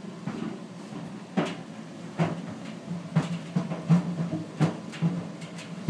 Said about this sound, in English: Here we are in the bedroom, and if you hear this, this is our tumble dryer drying my trainers, and it seems my trainers are having a bit of a run in there because they're making an awful racket with them. This dryer.